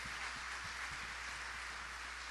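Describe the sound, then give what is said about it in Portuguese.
After a prayer, an audience applauds in praise of God, many hands clapping into a dense, even wash of sound that carries on without pause, with a faint low hum underneath and no voices. “Dá uma salva de palmas a Ele.”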